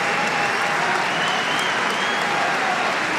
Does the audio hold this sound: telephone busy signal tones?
no